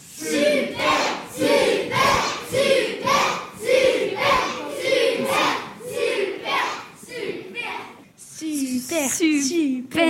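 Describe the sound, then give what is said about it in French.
Schoolchildren from a school in Marestiel et Clicourt cheer loudly, chanting and clapping in a steady rhythm after a banco win in a radio quiz game, for several seconds before an adult voice starts talking over the fading noise. “Bravo, on vous encourage avec des applaudissements.”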